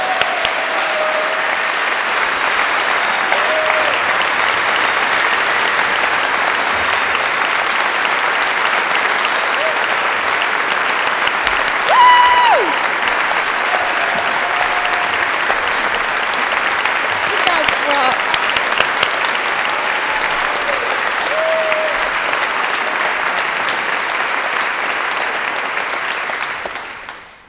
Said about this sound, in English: But can we give a round of applause to these people?